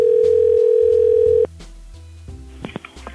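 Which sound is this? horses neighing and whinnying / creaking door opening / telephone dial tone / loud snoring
telephone dial tone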